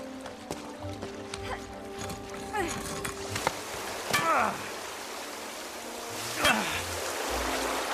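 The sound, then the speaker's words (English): A slow, steady trickle of running water fills the space, with occasional drips, splashes and faint knocks rising over the continuous flow. “notices the slow trickle of water filling the space they are in.”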